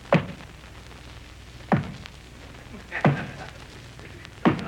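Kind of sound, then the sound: household object, door opening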